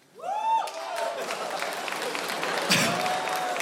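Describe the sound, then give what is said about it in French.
An audience breaks into steady, dense applause after a performer says he reached 100 kilos, holding for several seconds and opening with a rising shouted whoop from the crowd before the clapping takes over. “Mais vous applaudissez le diabète?”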